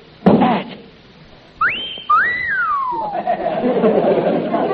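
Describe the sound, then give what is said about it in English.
A clear wolf whistle from a strength-test bell machine signalling the player's score: a quick rising note followed by a longer swoop that climbs and then falls. Voices chatter underneath as it trails off. “A wolf whistle.”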